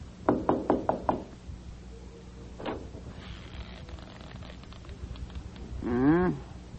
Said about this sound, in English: Well, go ahead. Knock.